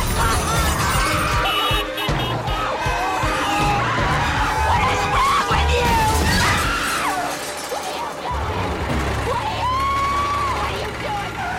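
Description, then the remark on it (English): A car mounts the pavement and crashes repeatedly into trees and lampposts, with loud smashing and shattering impacts piling up over roughly twelve seconds, while people scream and shout over the continuous din. “The car mounts the pavement, clipping trees and lampposts.”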